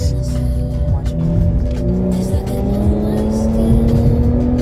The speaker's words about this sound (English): Yeah, and she punches it on her little shitty SUV.